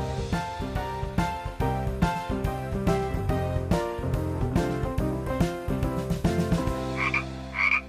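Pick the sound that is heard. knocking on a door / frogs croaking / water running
frogs croaking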